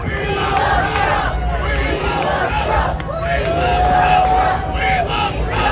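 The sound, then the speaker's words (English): A rowdy crowd of Trump fans at a political rally shouts and jeers in a steady, loud roar of overlapping voices, with individual yells rising above the babble throughout, as the rally turns into a bit of a brawl. “Well, it actually turned into a bit of a brawl. A bunch of Trump fans who are being extraordinarily rude, which, again, not super shocking.”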